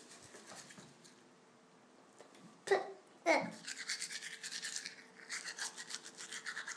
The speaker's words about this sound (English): What musical instrument is that? A toothbrush. A toothbrush? Play us a tune.